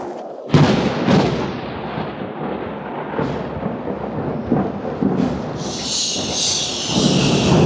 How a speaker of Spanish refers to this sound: La tormenta se cierne cada vez más violenta y amenazadora.